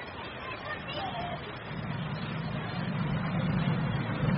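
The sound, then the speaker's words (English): A bus engine rumbles steadily beneath a continuous hubbub of indistinct children's voices on the bus; the low drone grows a little louder toward the end. “Quick, Tom, get off the bus now.”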